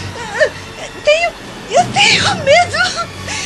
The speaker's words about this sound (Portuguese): Virgínia, veja, …, ela está chorando, agitada.